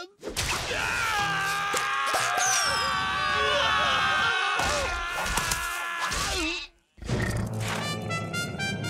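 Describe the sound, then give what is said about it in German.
A goat bleats loudly in long, wavering, nasal cries that run almost continuously, break off briefly, then start up again. “Hey, Jack, das Ding mit den Hörnern. Ist das eine Ziege oder?”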